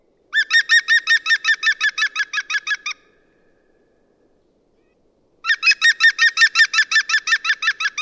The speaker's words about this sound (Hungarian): Mindenki találkozott vele, az is, aki nem, ugyanis a hangját mindenki hallotta, a neve hangutánzó, tehát azt mondja, hogy klük-klük-klük-klük-klük.